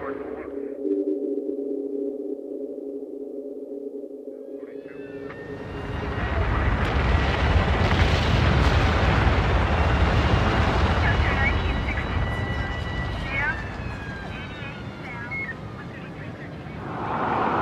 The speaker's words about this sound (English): What happened at the base of the towers just before they came down? Smoke appeared at street level. This video was shot from New Jersey. An explosion is heard as white smoke rises at the base of the building.